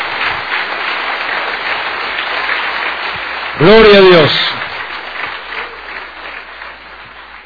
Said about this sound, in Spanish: Dele la gloria a Él, dele ese aplauso.